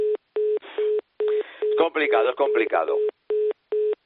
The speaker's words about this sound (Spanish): Ahí el teléfono. Bueno, pues seguimos con el teléfono ahí. Yo creo que pido disculpas a los oyentes porque sigue ahí el teléfono